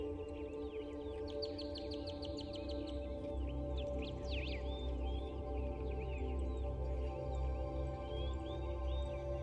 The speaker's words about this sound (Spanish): Algunas especies de aves revolotean entre árboles cercanos. Son aves exóticas, de colores muy vivos.